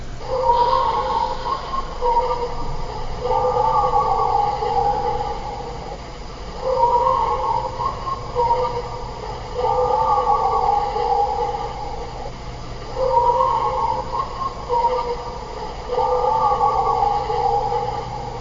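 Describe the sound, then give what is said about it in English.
A human voice mimics a dog's barking with loud, harsh, tonal barks in short clusters. The same sequence repeats three times as a loop, with no other sounds. “So the first one in that particular category of barks, grunts, and voice is barking voice 3X loop.”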